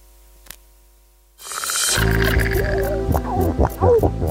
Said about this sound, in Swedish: Sälar som knorrar. Och fiskläten. Veckans Naturmorgon handlar om hur det låter under vattenytan.